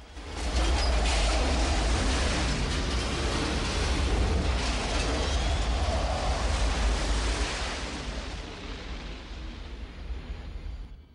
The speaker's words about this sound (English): An orange fireball rips through the planet as the gunship powers up through the atmosphere. The ship outruns a massive rolling explosion and floats off into space.